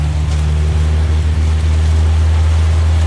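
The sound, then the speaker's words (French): The propeller engine of a Cessna 206 airplane, about twenty years old, starts and drones steadily, a loud, low, throbbing hum that holds even throughout with no voices over it. “Ah bah, il marche impeccable, hein? Quart de tour. Le quart d'hélice, il est parti.”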